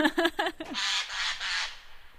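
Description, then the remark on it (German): Three harsh, rasping Eurasian jay screeches follow one another closely, loud, preceded by a few short, clipped tonal notes. “Meines Erachtens ist es ein Eichelhäher.”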